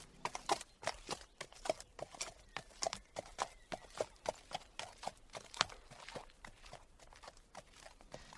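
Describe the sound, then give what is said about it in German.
A donkey's hooves clip-clop steadily along a hard road on the way to Bremen, a quick, even rhythm of sharp knocks, fairly loud throughout, with no voices. “Er machte sich auf den Weg nach Bremen.”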